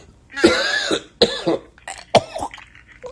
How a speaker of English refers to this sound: Sorry about that. Must be getting some kind of winter cough here.